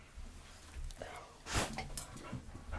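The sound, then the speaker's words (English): An eager dog pants in short, breathy bursts, irregular rather than steady, with one louder gust of breath partway through and soft rustling and low murmurs around it, in a small porch before a dog walk while wellies are put on. “Another day, another dog walk, and I have a very, very eager dog.”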